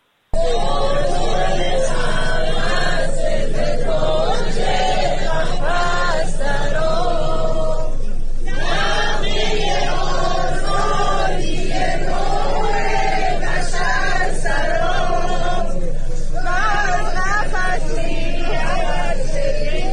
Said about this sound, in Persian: اون ور در فضای عمومی هم جمع از بانوانی که هوادار استاد … بودند و در مراسم برای مراسم تدفین در واقع اومده بودند، برای وداع با استاد آواز ایران دست به دست هم داده بودند و آواز مرغ سحر رو میخوندند.